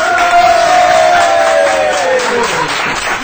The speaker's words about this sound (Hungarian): a legszorgalmasabb SMS-ezőnk, hatalmas tapsvihar jön, figyelj